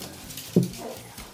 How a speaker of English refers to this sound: Are you yawning?